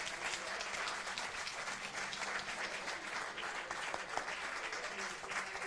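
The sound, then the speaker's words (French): A crowd at a festival applauds a representative of the Embassy of Vietnam in France steadily for several seconds. It is a dense, even wash of many hands clapping with no pauses, holding at the same moderate loudness throughout. “Il est là, on peut l'applaudir.”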